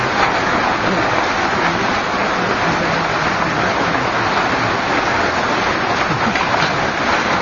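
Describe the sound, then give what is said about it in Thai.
Heavy rain that has been falling since the morning pours down in a steady, dense hiss that never lets up, fairly loud, with a fine crackle of drops hitting surfaces throughout and no voices. “วันนี้ฝนตกแรงเลยนะ ตกนานเลยครับตั้งแต่เช้าเลย คงจะพอได้ยินนะ ได้ยินครับ”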